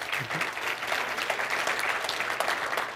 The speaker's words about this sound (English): So first of all, ladies and gentlemen, let's give a round of applause to Perry from T-Rock, please.